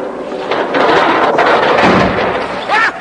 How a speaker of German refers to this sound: Zum Donnerwetter! Man hat mir das Tor vor meinen Bürgermeisterbauch geknallt. Mir, dem ältesten Ratsherrn, hat man den Daumen eingeklemmt.